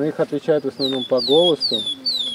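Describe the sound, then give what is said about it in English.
In a forest near the Baltic Sea in Latvia, clear, descending bird whistles repeat every half second or so in the background, fairly distinct, while a man talks steadily in the foreground to a little girl about birds. “In a forest near the Baltic Sea, a man is talking to a little girl about birds.”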